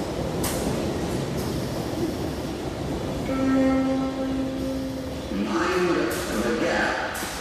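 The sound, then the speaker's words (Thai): A London Underground subway train rumbles steadily, its rising motor whine sustaining for a couple of seconds mid-run before the roar continues, with muffled voices faintly in the background. “ตอนนี้ถ้าจะเดินทางเราก็ต้อง ขึ้นรถไฟใต้ดินค่ะ”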